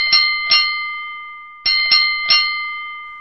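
A metal bell hanging in a school yard is struck five times by a girl with an iron bar, in two quick pairs then a trio after a short pause, each bright ringing strike sustaining its high tones and slowly fading between hits.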